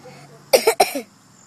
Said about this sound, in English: And I got to get you medicine today because you keep coughing all the time.